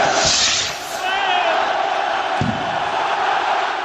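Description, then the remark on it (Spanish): A loud crowd roars and cheers throughout as the chupinazo rocket that opens the festival in Pamplona whistles briefly through the air, followed about four seconds later by a single sharp bang, with the shouting carrying on afterward. “Uno suena a algo que traspasa el aire y el otro a una explosión.”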